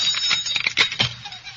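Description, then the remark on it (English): A gate bell jangles insistently in a violent ring before a wedding ceremony, a rapid run of bright metallic rings clattering for a couple of seconds, with no voices over it. “In the name of all that's holy, stop jangling that bell.”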